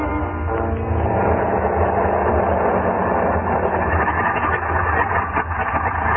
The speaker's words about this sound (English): Pilot Sipper climbed in, waved goodbye, revved up his motor, and the little plane went plowing off through the snow.